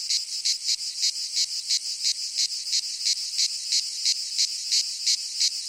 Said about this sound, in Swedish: Så där lät de. Ja, okej. Ja, nu har både vi och ni kära lyssnare fått höra hur en cikada låter. Det låter ju inte nice.